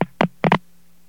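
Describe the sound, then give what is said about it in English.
Four sharp mechanical clicks of a Number 5 crossbar telephone exchange switching on a directly dialed call, in an uneven cluster with the last two close together, followed by a faint, steady low hum on the line. “Now that we've heard the clicking, I won't need to dial it through the credit card where we could hear all the clicking.”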